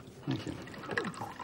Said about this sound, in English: She pours two teacups.